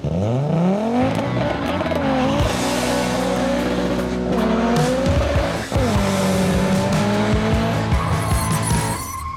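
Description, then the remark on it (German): An Opel Ascona rally car engine roars loudly, its pitch climbing and dropping through gear changes, with tires squealing and skidding throughout the run. “Die Motoren des Ascona laufen eigentlich gut, aber der Opel ist vom Fahrwerk her noch immer nicht erste Sahne.”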